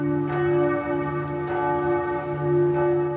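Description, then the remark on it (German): Large bells of Würzburg Cathedral (Kiliansdom) in Germany ring steadily, calling to a church service: deep sustained tones overlapping with fresh strikes roughly every second and a half, full and resonant with no voices. “Das wird spätestens klar, wenn die Glocken zum Gottesdienst rufen.”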